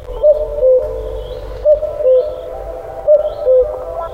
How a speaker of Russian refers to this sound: С одной стороны слышится кукушкин голос.